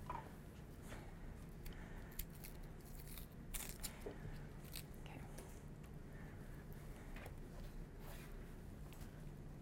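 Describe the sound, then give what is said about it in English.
Knife work on an onion: both ends chopped off, the onion cut in half and its skin peeled off; crisp slicing and crunching cuts mixed with soft rustling and papery peeling sounds, irregular and steady over a quiet room hum. “So I'm gonna chop off one end, chop off the other end, and cut my onion in half so I get to a flat surface.”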